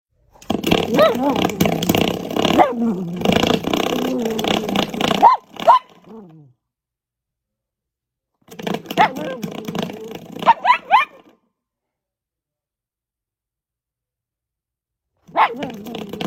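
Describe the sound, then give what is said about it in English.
A female puppy barks and growls in long, rough bursts, with sharp yips breaking through, pausing twice into silence before starting again. “just to prove misogyny is not limited to Andrew Tate, of a puppy”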